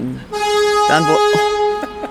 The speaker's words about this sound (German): Ein großer LKW, der durchs Bild fährt, meine Damen und Herren.